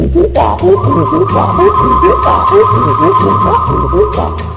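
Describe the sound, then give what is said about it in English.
The chimpanzee Ham, the first monkey to go to space, vocalizes after his capsule returned safely to Earth: a fast, rhythmic run of about a dozen loud hooting grunts over a steady high-pitched hum like a radio transmission. “In a moment, we will hear the voice of the first monkey to conquer space.”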